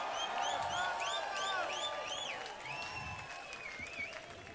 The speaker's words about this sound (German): Auf das Resultat mussten die Menschen bis um 15 Uhr warten und dann war es klar, die Initiative zum Verkauf und Schließung der Reitschule wurde mit 68,4% abgelehnt. Und das hat vor dem Kulturzentrum entsprechend Jubel ausgelöst.